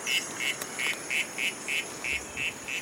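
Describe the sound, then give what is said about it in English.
A recording of a Ufaga Lemani frog call, played back in a jungle, with a duck-like quacking quality: about nine short, evenly spaced croaks in a steady rhythm, moderately loud against faint background hiss and no talking. “So we try playing a recording of a real Ufaga Lemani.”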